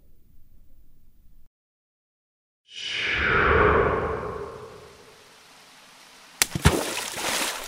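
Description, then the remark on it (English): At Clough Mill, after a short quiet moment, a heavy splash of someone dropping into knee-deep water in a goit, a channel carrying stream water to the mill, surges up and slowly fades, followed by a few sharp sloshing splashes. “I know you can't see me, but I'm... standing up to my knees in water. Just a minute while I... get out of the goit.”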